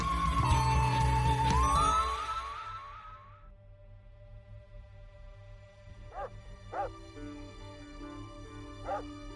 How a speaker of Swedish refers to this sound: Mitt i natten, den 15 oktober 2018, började familjens hund skälla inuti familjen Kloss hus i Barron i Wisconsin i USA.